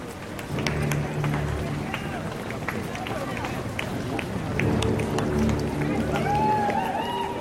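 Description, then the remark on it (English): Many running footsteps patter along steadily while a crowd cheers and chatters underneath, a lively, continuous roar with a few rising whoops toward the end. “The runners are coming in and the crowds are happy.”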